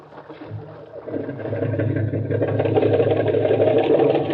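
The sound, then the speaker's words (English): A boat's outboard motor, with the boat held in the surf, sputters to life and then runs steadily, its low droning hum growing louder and fuller over a few seconds with a rough, continuous rumble. “Hold it into the surf till he gets the motor started.”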